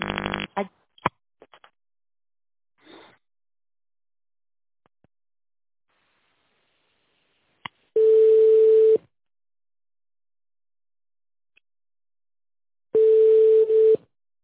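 telephone busy signal tones

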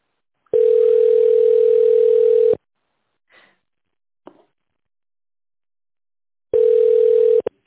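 telephone ringback tone

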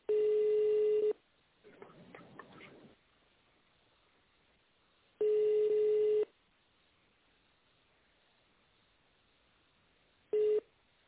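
telephone ringing unanswered

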